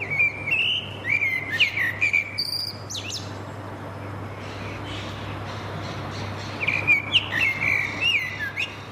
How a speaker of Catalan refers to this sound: Ara estàvem escoltant una merla de Sant Cugat del Vallès, gravada per un company vostre d'aquí de la casa, del...